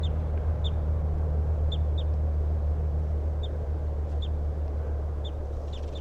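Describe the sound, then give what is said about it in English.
A male songbird near a road sings a series of short, high chirping notes at irregular intervals, over a steady low rumble of background noise. “So recording, here's the good song of that male who's near the road.”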